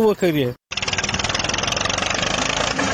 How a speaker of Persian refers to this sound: اینجا در ولسوالی گرشک هلمند در یک ویدیو دیده می شود که طالبان با استفاده از تراکتور و موتر رنجر یک مزرعه کوکنار را تخریب می کند.